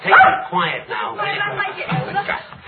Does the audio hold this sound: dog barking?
yes